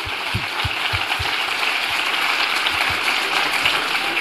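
Steady, dense applause for Ania from a group, many hands clapping at once in a continuous crackling wash that holds at a fairly even loudness throughout, with no voices over it.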